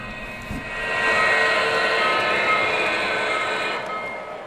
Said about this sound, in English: That was a big innovation in electric trains, was when Lionel came out with a whistle, an engine that whistled like steam engines.